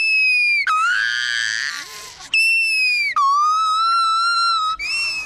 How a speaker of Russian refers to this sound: Гиббонам и орангутангу смотрители предлагают другое лакомство – мороженое. Судя по одобрительным крикам, приматам оно очень нравится.